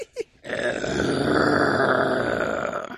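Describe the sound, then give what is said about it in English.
A person imitates a car with their voice: a short grunt, then a loud, raspy engine-like growl held steadily for about two and a half seconds. “Well, that was then, a car.”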